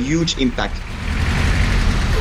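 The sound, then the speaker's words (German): Steady rumble of dense street traffic in Praia, the capital of Cape Verde, with engines droning, after a brief indistinct voice at the very start; the noise builds and stays loud throughout. “Doch noch sind E-Autos die Ausnahme im dichten Verkehr der Hauptstadt Praia.”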